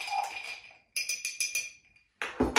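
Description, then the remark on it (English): Ice clinks and rattles against a chilled glass as a cocktail is stirred to chill and dilute it, a quick run of rhythmic ringing taps, fairly clear, ending in a louder jostle of ice. No one speaks. “So when we're stirring, we want to chill the drink, but we also want to dilute the spirits a little bit.”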